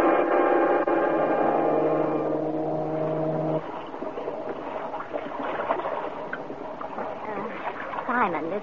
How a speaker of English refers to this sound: Ferry boat is like a ghost ship.